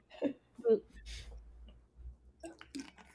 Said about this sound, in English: This cough will be gone soon, hopefully.